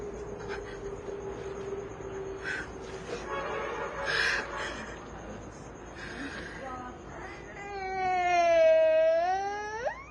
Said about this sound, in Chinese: 我记录过很多这样的哭声